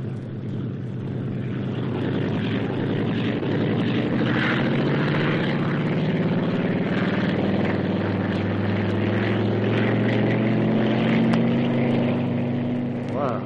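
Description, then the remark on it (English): A propeller test plane flown by test pilot Stan Mercer roars up to full power for takeoff, its loud, steady engine drone rising slightly in pitch under a constant rushing wash of noise. “Take off, like he was driving a jeep.”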